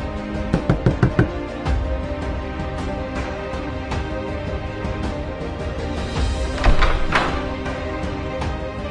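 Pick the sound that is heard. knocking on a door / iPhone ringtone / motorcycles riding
knocking on a door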